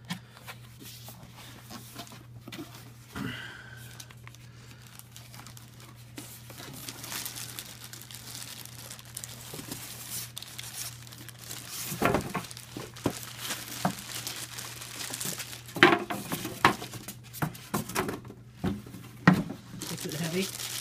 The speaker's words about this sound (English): We're unboxing the Star Trek mini fridge. Must have for any Star Trek fan, it says.